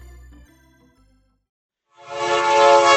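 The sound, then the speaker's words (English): A loud, sustained train horn sound effect blares in after a quiet lead-in, its rich stack of harmonic tones swelling and holding steady, with no speech. “All aboard. It's the Rabbit Train with Carl Ravitch.”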